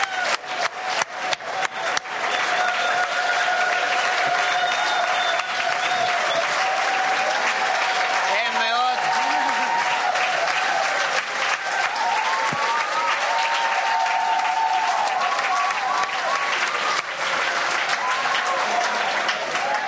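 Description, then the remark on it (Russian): An audience breaks into applause, a few scattered claps at first quickly swelling into loud, sustained clapping for about twenty seconds, with faint voices and whoops mixed in. “Мне никогда так не хлопают.”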